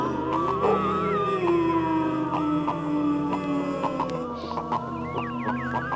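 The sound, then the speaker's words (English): Hounds howl in long, wavering wails that overlap into a sustained chorus, rising and sliding in pitch throughout, fairly loud and continuous with no talking. “The howl. That eerie wail that is by far the most significant call of all animals.”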